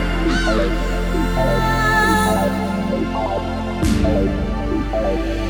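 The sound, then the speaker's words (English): A raven caws harshly near the start, ringing over a dense, droning musical backing, with a sudden noisy burst later on. “The raven.”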